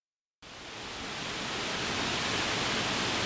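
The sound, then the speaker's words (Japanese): After a brief moment of silence, the steady, dense rush of the Senjuin waterfall begins and swells slightly, roaring continuously and fairly close, with no voices. “さらに近くにはきれいな滝が流れていて、隠れて暮らす内室や二人の姫の心を癒す場所にもなっていたんでしょうか。”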